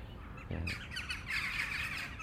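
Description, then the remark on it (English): Jackdaws call in a massive rookery, fighting over small perches in a tree, a jumble of sharp, high chack notes overlapping in bursts, fairly loud and continuous, with no voices. “But these are all jackdaws.”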